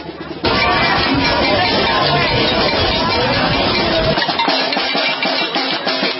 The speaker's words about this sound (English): Here we are banging whistles and bells in my face. So what brought you out here to bang on that bell there?